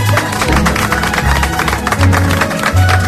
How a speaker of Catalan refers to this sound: Senyores i senyors, amb tots vostès, és un plaer, és un honor. Mira el que et dic, un honor. Que avui visiti aquest estudi el senyor Màrius Carol. Un aplaudiment.